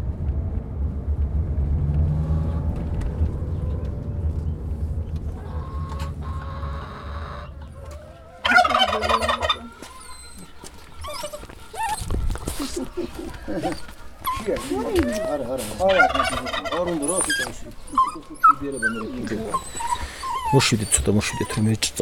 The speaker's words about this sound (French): Ici, vous élevez des vaches avec vos parents, vous avez aussi des dindons et des chiots qui font un sacré bruit.